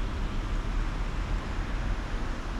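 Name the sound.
cars driving past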